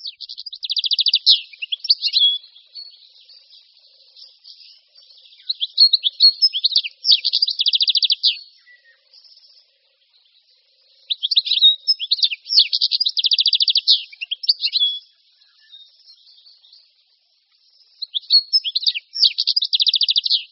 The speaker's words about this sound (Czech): Stehlík obecný patří mezi naše nejznámější ptáky. Je to nejen pro jeho nápadní pestří zjev, ale i pro velmi milý a zvučný hlas. Pokud se pozorněji zaposloucháme do jeho zpěvu, slyšíme jakoby stehlík, stehlík.